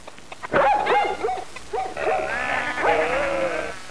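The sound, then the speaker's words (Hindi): A dog gives a quick series of sharp barks, followed by longer wavering bleat-like cries, with no one talking. “ईश्वर ने ही बकरी कुत्ता मुर्गी बनाया।”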